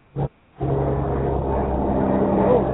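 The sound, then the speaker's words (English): A brief thump, then the steady, loud, low drone of helicopters overhead, a rumbling engine roar with a humming tone that holds unbroken to the end. “The helicopters are flying over saying yes.”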